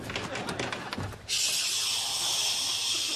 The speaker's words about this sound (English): My God, one of the pipes has burst and the other one's knocking.